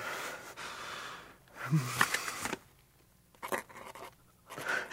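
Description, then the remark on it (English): A man signs a confession, a pen scratching across paper in several short, raspy strokes, with brief pauses between them, fairly quiet, alongside faint breathing. “He has signed.”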